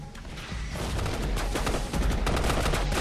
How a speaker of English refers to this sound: They hit the deck while three other SEALs advance, guns firing.